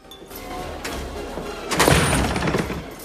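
Jim kicks open gold-paneled doors with a heavy thud and a broad crash about halfway through, followed by a rattling, ringing tail over a steady background hum. No one speaks.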